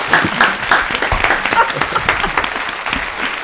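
An audience bursts into sustained applause, dense overlapping clapping from many hands at close range, steady and loud throughout, with faint voices mixed into the crowd noise.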